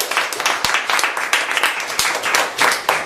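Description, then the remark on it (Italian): Many people at a meeting applauding the work of the outgoing secretary, a steady dense patter of many hands clapping at once, sustained for a few seconds without any talking. “Direi un applauso a questo punto per il lavoro del nostro segretario.”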